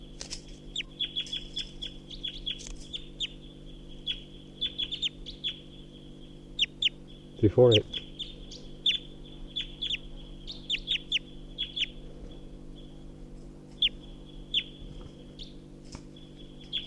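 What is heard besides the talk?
wild bird calling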